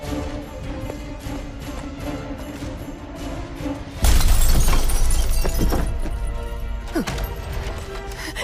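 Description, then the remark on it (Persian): After a few seconds of low, steady background hum, someone smashes a car window at a dock near a park in one loud crash, its glassy noise lingering and slowly fading over several seconds. “یکی میخواد منو خانم شما شیشه ماشینم شکنید.”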